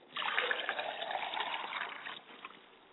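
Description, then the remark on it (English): Water is poured onto the ground as a libation in a purification ritual, a continuous splashing stream for about two seconds, then tapering off into a softer trickle. Fairly loud, with no voices. “And I allow the water to pour to the ground.”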